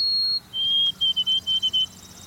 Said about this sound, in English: From a nearby evergreen come the pure whistled notes of a white-throated sparrow. This sweet music will ring through many northern forests all across the continent.